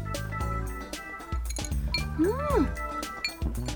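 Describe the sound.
Glasses of imo shochu clink together in a toast, a few bright taps scattered among several voices talking and exclaiming over each other.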